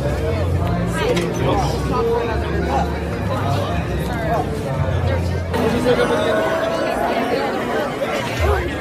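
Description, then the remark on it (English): A dense theme park crowd at a Christmas party, just after the fireworks, murmurs and chatters all around, many overlapping voices forming a steady, loud hubbub with a low rumble underneath, while the recordist makes their way through the packed outdoor throng. “We're fighting our way through the post-fireworks crowds right now.”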